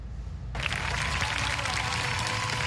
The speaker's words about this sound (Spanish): Con un minuto de aplausos en honor a los jóvenes venezolanos caídos durante las manifestaciones opositoras realizadas durante los últimos días, miles de estudiantes realizaron asambleas de manera simultánea en todas las casas de estudio del país